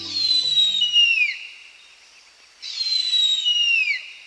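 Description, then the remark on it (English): A harpy eagle gives two long, high, wailing calls that slide downward in pitch, separated by a short pause. The calls are loud, with no talking. “If there is a single bird that captures the imagination of birders, it may be the harpy eagle.”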